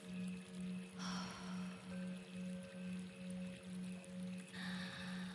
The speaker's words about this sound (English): Just relax and breathe in the aromas of the moist air as we guide you through the spa. We always have water flowing here to relax the senses.